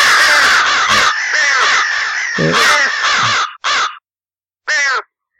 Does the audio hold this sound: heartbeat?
no